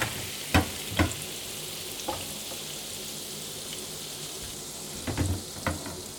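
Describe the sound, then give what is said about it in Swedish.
Fresh butter, just added, sizzles steadily in a hot frying pan, a constant crackling hiss broken by a few sharp clicks and pops from utensils against the pan. No one speaks. “Och så tar jag på lite nytt smör där.”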